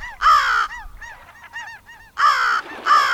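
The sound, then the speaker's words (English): Crows caw loudly, three harsh, drawn-out calls with quieter, shorter bird calls chattering in the gaps, from a group of gulls and crows foraging for washed-up food on a beach at low tide in British Columbia in autumn. Nobody speaks. “One time last fall, when the tide was low, a group of gulls and crows were on the beach, mooching about, looking for what had been washed up.”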